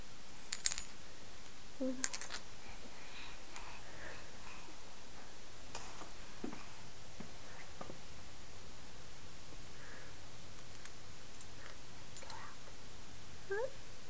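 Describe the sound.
A mother's keys jingle softly in scattered, irregular clinks and rattles as she heads outside with a child to get the mail, over a quiet, hissy background with a faint murmur of voices underneath.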